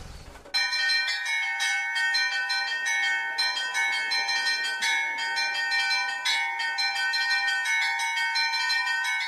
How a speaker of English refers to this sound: The largest of the Rostov bells weighs 32,000 kilograms, and the sound of its chimes can be heard for 20 kilometers.